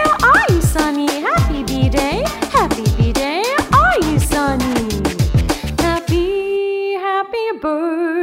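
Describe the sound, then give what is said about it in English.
A rapid, steady run of short, yipping dog barks, loud, bounces along in a musical rhythm within a happy birthday song for several seconds before giving way to a sustained tone. “My dog says woof woof to you”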